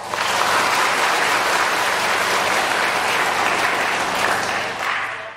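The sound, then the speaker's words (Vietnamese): A crowd of Buddhist followers and student monastics claps steadily in a dense, continuous burst of applause lasting about five seconds, loud throughout before easing slightly at the end, with no one talking over it. “Xin đang đối diện trước quý nam nữ Phật tử và các em tu sinh cho một tràng vỗ tay.”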